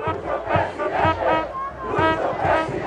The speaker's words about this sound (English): This week, thousands of Morales supporters gathered anew for a final election rally in La Paz by his socialist party. Morales is in exile in Argentina. This crowd is listening to his replacement, the party's presidential candidate, Luis Arce.